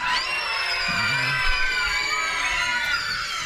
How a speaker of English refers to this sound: We're going to need some help with some screams from the witches. You guys want to practice one scream? One, two, three.